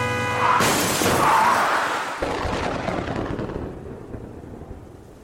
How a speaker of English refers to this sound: Look out! Just then, a huge truck smashed into us from the side.